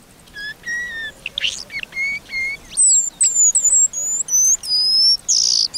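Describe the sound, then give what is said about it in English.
A paradise whydah calls in a quick series of high, thin whistled chirps and short rising notes, fairly loud, with brief gaps between bursts and no one talking. “The male paradise Whydah's tail feathers are not just super long, but also broad, as if they belong to a much bigger bird.”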